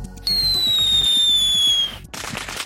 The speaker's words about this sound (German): Raketen, Kracher, bengalische Feuer oder Vulkane. Fast 2000 Tonnen werden jedes Jahr in der Schweiz gezündet.